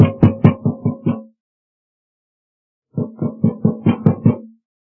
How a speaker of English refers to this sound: I'll wait till I bang on the door to make sure.